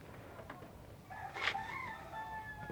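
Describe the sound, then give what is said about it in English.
A rooster crows once in a long, drawn-out call that rises sharply then holds and trails off, over a faint background hiss. “The one of the chicken. You got chicken?”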